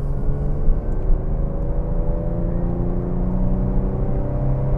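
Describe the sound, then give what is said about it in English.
A car engine drones loudly and steadily, its pitch slowly rising as it revs through acceleration, with a constant low rumble and whir of driving underneath. “Oh, listen to that engine.”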